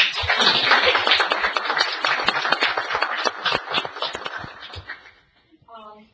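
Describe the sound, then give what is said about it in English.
A crowd applauds the town's employees in a dense, steady burst of many overlapping hand claps, which thins out and fades after about five seconds before a brief voice begins speaking. “Clap.”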